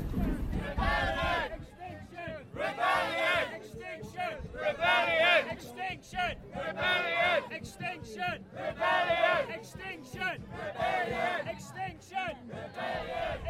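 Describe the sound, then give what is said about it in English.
A crowd of about 300 people, coming from the north side of the river toward a bridge with a drumming band, chants and shouts in loud, rhythmic bursts, repeating every second or so, with a steady drum beat running underneath the massed voices. “As you can probably hear in the background, there are about 300 people coming from the north side of the river with a drumming band, so I'm going to check out what's going on.”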